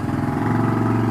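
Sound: motorcycle engine idling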